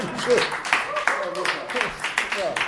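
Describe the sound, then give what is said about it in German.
An audience applauds with steady, dense clapping that keeps going for a few seconds, while indistinct voices murmur underneath. “Ich gehe mal davon aus, dass wir gleich den Beifall hören, der das bestätigt, dass wir uns alle freuen, dass ihr noch lange zusammen bleibt, nachdem ihr euch gefunden habt.”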